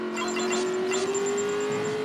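The car engine in Carros, a racing game app on a mobile phone, revs in a steady, buzzing drone, its pitch creeping slowly upward over about two seconds, with a thin high whine above it and no voices.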